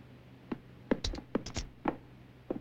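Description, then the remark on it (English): A man knocks two bags of money, taken from a barrel, together: about half a dozen irregular thuds with a jingling, coin-like clink on some hits, fairly quiet, with no voices. “He brings out another, and smiling to himself, knocks the bags together.”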